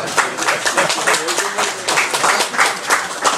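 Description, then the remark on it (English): A crowd applauds steadily for a few seconds, a dense, even patter of many hands clapping at once, with faint voices mixed in underneath. “I'll give you a clap on that.”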